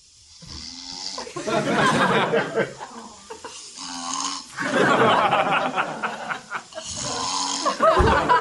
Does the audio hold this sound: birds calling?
no